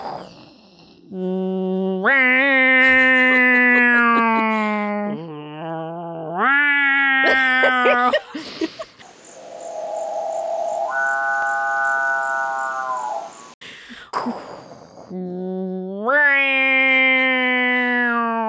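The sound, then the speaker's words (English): An odd bird call repeats in long, loud, buzzy wails that slide upward in pitch, with a harsher, raspy, growl-like stretch in the middle before the wailing returns. “That is a bird. I don't know about chainsaw or cow.”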